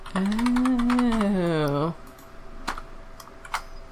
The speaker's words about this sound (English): I'm typing. Maybe. Oh, okay. Are you typing anything that I need to see, or are you just typing?